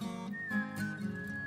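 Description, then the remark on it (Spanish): A person whistles a clear, sustained note that glides slightly and then holds steady, ringing out above a soft, strummed musical backing with no voices, in a 1988 song. “Esto es un silbido bien puesto.”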